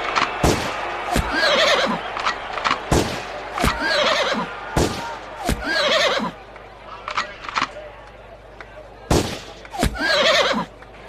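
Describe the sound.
A voice imitates a horse, Juan the Spanish horse in a pretend race, with several wavering neighs and whinnies, punctuated by sharp clip-clop clicks like hooves, fairly loud, with short pauses in between.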